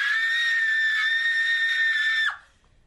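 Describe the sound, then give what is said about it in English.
A woman lets out a single sustained, piercing scream lasting over two seconds, loud, cutting off abruptly with a brief downward break at the end. “In fact, if you come any closer, if you touch me or anything, I think I'll scream.”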